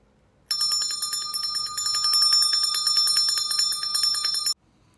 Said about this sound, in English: Ding ding, ding ding. Dad came into Chip's room. He was ringing a bell.